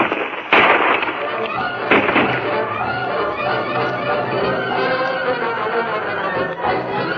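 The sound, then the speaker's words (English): Three sharp gunshots, fired at a rock, crack out at irregular intervals, loud and abrupt, over a dense, busy background of rumbling noise and indistinct voices. “I'll get him with the next shot.”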